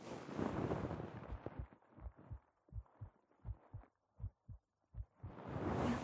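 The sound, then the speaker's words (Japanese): A muffled heartbeat thumps in steady paired beats, picked up by a Neumann microphone through a shirt, with broad rustling fabric noise swelling at the start and end as the microphone shifts against cloth. “心音の音はほぼ一緒かな。”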